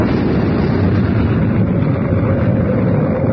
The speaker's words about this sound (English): An explosion inside the Sphinx. What happened, Reed? Even I can figure that out. It was the Pharaoh's last booby trap. He blew up every trace of his very existence.